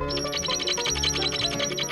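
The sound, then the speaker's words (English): A small bird, a wren, sings a rapid, bubbling trill of high notes that rolls on steadily without pause, fairly clear, with no voices. “A little wren.”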